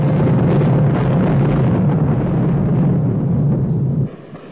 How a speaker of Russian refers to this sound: Вы слышите? Это противовоздушная оборона столицы встречает вражескую авиацию на дальних подступах. Вокруг самолетов желтоватые комки зенитных разрывов.